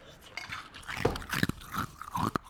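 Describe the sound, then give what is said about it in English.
Loud, close-up crunching of ice being chewed right against the microphone, with irregular bursts of cracking and grinding spread across a couple of seconds. “will just chew ice into the microphone for just an hour and a half.”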